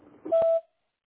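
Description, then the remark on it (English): A single voicemail beep: one short, steady mid-pitched tone lasting about a third of a second, with a faint click partway through, followed by silence after a brief muffled murmur. “after the beep, and I'll call you back when I can.”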